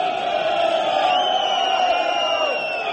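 A large crowd of protesting shipyard workers shouts together while union leaders speak into microphones, a loud, sustained roar, many raised voices blending into a steady din with no pauses and no individual words standing out.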